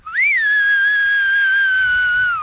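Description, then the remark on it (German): A loud, piercing whistle of a whistled language from the region around Antia, made by a man forcing air through his teeth and tongue without using his fingers; it rises briefly, then holds a steady, sustained pitch for over two seconds before dipping slightly at the end, with no talking. “Er presst die Luft kraftvoll durch Zähne und Zunge. Die Finger benutzt er dafür nicht.”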